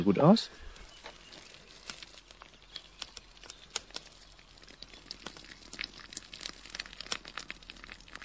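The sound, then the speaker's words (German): A man pours the water off a pot of cooked pasta in a steady, hissing stream, speckled with irregular splashes and crackles, after a short burst of voice at the very start. “Jetzt gießt er hier das Nudelwasser ab.”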